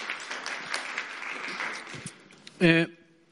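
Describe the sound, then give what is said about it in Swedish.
Steady crowd applause, a dense rustle of many hands clapping at moderate volume, ending in a brief loud voiced shout or cheer before it fades out. “Ja, en applåd.”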